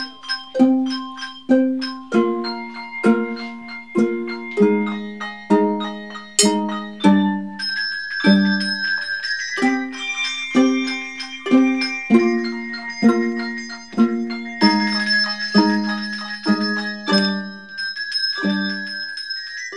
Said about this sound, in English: So there are lots of different ways to play the bells, which it's very exciting to see how a composer uses different techniques.